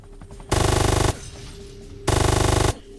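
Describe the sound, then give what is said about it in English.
Two loud bursts of rapid automatic video game gunfire shooting at drones, each about half a second of fast, evenly spaced shots, separated by a brief pause with a low background hum. “We have to shoot them. We have to shoot everything.”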